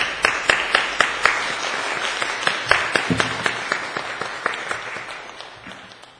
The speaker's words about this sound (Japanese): それでは拍手を持ってお迎えしましょう。